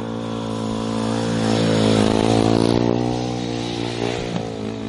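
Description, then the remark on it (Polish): A speedway motorcycle engine revs loudly, its pitch climbing and falling over several seconds with a rough, rattling roar, no voices present. “Okazuje się, że na motocyklu żużlowym próbują swoich sił również inżynierowie budownictwa.”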